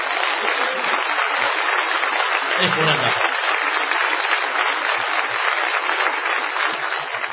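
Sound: audience ovation applause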